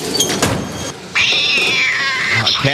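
A cat lets out a long, drawn-out meow, loud, following a few brief shorter cries and some muffled background noise.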